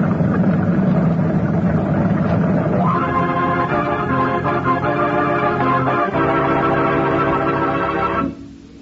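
A motor launch engine at sea drones steadily and loudly with a rumbling, harmonic hum that shifts pitch around three seconds in and again near six, then drops off sharply at the end as the motor is slowed.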